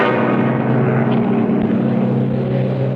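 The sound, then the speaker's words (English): A propeller rescue airplane drones loudly and steadily overhead, its deep engine hum holding an even rumble throughout with no voices. “A plane! It's coming over us!”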